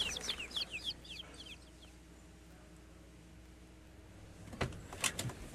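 Young chicks peep and cluck in quick, high bursts, then fall quiet before a few more sharp chirps and taps.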